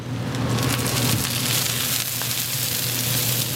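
An oyster omelette of oysters, batter, egg and vegetables fries on a hot griddle at a Taipei night market stall: steady, dense sizzling and crackling with bright spattering pops throughout and a low hum underneath, no voices.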